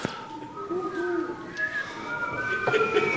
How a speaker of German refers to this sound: Ihr könnt ja nochmal so schön pfeifen, ihr habt das gestern bei der Demo-Show so schön gemacht, so schön schief.